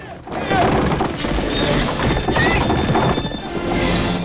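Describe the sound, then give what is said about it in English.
A runaway horse-drawn buckboard, a woman holding the reins, gallops hard along a track that bends to the right, a loud, continuous rumble of pounding hooves and rattling wheels, with a brief horse whinny rising midway. “The track they're on bends to the right and Doc catches up with the buckboard.”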